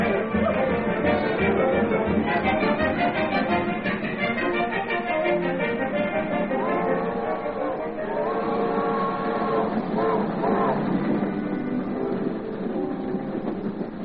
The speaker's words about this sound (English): Hey, there comes the train. Yep, that's the old Santa Fe. She's whistling out at the North End station now. Yes, sir, and right on time, too.